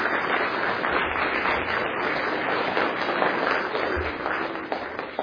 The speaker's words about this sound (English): We want to give all the children a wee round of applause just to express our appreciation.